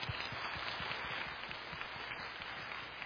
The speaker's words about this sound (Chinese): 我哋再一次鼓掌欢迎佢吓。